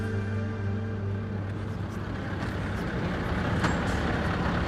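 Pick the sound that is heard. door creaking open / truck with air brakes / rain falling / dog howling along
truck with air brakes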